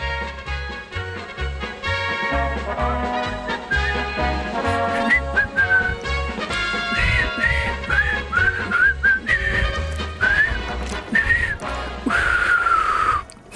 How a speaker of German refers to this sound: So, das Pfeifen ist nicht mehr auf dem Film drauf. Das ist jetzt gerade live aus dem Studio gekommen.